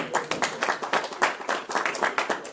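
An audience at an event applauds two brothers steadily, many hands clapping in a dense, crackling wash of sound that stays fairly loud throughout, with no one speaking over it.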